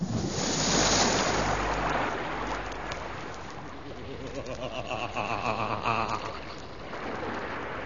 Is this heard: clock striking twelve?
no